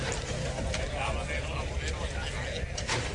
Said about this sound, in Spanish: Ahora han abierto la puerta interior. Y a ver si el animal se decide a salir.